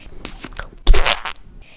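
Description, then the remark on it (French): A wet, squelchy squeeze of purple paint from a tube, pressed hard: a brief sputtering burst followed by a louder, longer squishing push that trails off quietly. “Il a pressé fort une goutte de violet”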